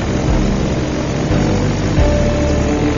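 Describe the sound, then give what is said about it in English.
Loud, steady drone of a DC-3 vintage propeller airliner's piston engines running, a thick low rumble with a gritty roar, unbroken for the whole stretch, with no voices. “Two incomparable icons, the DC-3 and the Stanley Cup.”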